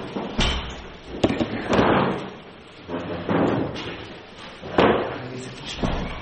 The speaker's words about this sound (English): Oh, I can open the door again.